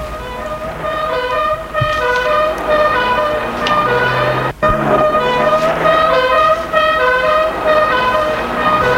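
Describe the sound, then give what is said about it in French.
Police cars pull away with loud, sustained sirens and horns blaring over the steady rumble of engines, continuous for the whole stretch, with no voices. “Une fois dehors, tout le monde entre dans des voitures de police.”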